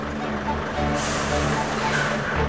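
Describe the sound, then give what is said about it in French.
A fish delivery truck's engine rumbles low and steady as it arrives, then a sharp, sustained hiss of air brakes bursts out and gradually fades while the engine keeps idling underneath. “On vient de nous annoncer que le camion arrive.”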